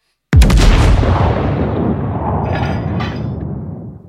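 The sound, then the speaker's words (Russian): A single powerful cannon shot from the cruiser Aurora in Petrograd bursts out suddenly, followed by a deep, rolling boom that echoes and slowly fades over several seconds, with no voices present. “Такой Пензенская губерния подошла к октябрю, когда в Петрограде прозвучал выстрел «Авроры» и власть перешла к советам рабочих и крестьянских депутатов.”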